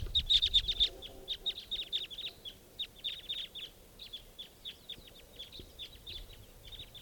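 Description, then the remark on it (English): A flock of about eight crossbills, thought to be Type 2, gives repeated sharp, high-pitched chip calls in quick overlapping bursts, steady throughout with no one speaking. “And I think there's a wild crossbill coming in.”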